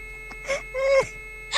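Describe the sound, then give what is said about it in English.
A steady, unbroken, loud electronic beep drones from a frozen Wii game console, holding one pitch throughout while a few short bursts of other noise rise briefly over it. “My Wii froze. Here, go mess up. This is making the loud beep noise.”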